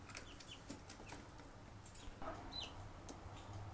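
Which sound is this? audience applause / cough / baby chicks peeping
baby chicks peeping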